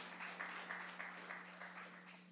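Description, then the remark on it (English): A church audience claps, giving a steady, dense patter of many hands that holds at an even level for a couple of seconds over a faint, constant low hum. “You can clap.”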